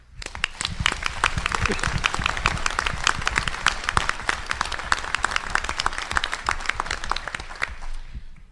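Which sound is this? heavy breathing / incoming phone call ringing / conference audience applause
conference audience applause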